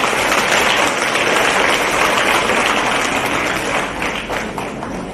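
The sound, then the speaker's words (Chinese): An audience applauds to welcome a Buddhist practitioner from Malaysia who will share her experience. The crowd claps steadily, a dense wash of many hands at once, loud and sustained before easing off slightly toward the end, with no voices over it. “让我们掌声欢迎。”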